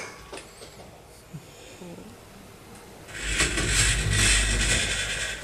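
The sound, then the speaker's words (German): A cat named Finn pushes through a cat flap: a few faint taps in near-quiet, then a loud, sustained clattering and rustling as the flap swings and rattles for a couple of seconds. “Finn geht durch die Katzenklappe.”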